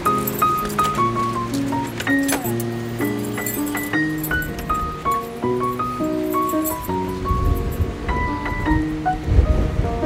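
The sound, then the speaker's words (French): Wind rushes and rumbles steadily outdoors in front of the tomb of Jean Zay, buffeting the microphone and growing heavier near the end, while a bright, stepping melody of chiming tones plays over it. No one speaks. “Il y a du vent, hein? Il y a du vent, ouais.”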